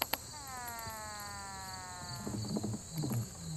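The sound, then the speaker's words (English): Vibration signals of male treehoppers, which vibrate their abdomens at very high speed, picked up by a cartridge needle wired through an amplifier: a steady buzzing drone with many stacked overtones that rises slightly in pitch for about two seconds, then gives way to a run of low, irregular thumping pulses. “They're vibrating their abdomens at incredibly high speed to make an assortment of bizarre sounds.”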